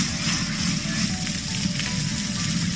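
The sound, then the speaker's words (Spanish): Steady, dense crackling and hissing of a large, uncontrolled wildfire burning through forest in Sierra Bermeja, Málaga, in wind, a continuous loud roar with rapid irregular pops and a low rumbling underneath, no voices. “Lo que escuchamos es el fuego crepitando mientras arrasa a su paso, como decimos, miles de hectáreas en una zona forestal donde el viento está dificultando todavía mucho las labores de extinción y podría generar además nuevos focos.”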